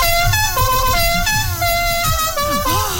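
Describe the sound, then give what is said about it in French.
Loud klaxon horns honk without pause, several blaring tones overlapping and shifting pitch, steady for the whole stretch with no voices. “Ah, et c'est à partir de là qu'apparaît le klaxon et notamment la Klaxon Company et oh.”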